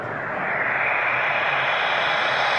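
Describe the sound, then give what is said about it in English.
A futuristic electric car sound: a steady, loud whirring whoosh with a smooth airy hiss that holds at an even level for a couple of seconds, with no one speaking. “These are things we may have seen in some movies with futuristic cars.”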